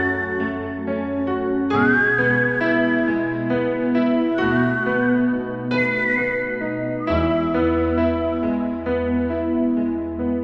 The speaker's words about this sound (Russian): Пожалуй, в этот момент капитан и начал насвистывать лунную сонату.